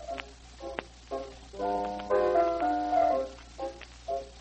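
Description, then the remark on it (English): A doorbell chimes a short melody of bright, ringing tones: a few quick notes, then longer, fuller sustained ones, ending with two brief notes. No one speaks over it. “The bell, Nanine.”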